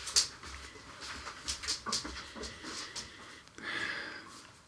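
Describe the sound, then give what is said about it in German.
A dog comes over and sniffs, a run of short, breathy snuffles and snorts in quick irregular bursts, with a longer huff near the end and no one talking. “Jetzt kommt der Hund. Der Hund kommt schon einmal, ja. Hund, riecht du mal.”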